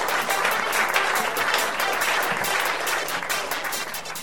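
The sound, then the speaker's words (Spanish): Loud, sustained applause sound effect triggered by a button, a dense steady clatter of many hands clapping at once that holds its level for about four seconds with no voices. “Si es que le doy un botón y aplauden a rabiar.”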